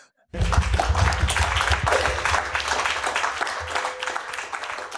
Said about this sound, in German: Viel Applaus zum Schluss.